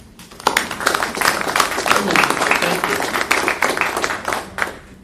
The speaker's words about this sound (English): So I, too, think they're deserving of a round of applause for me. Thank you.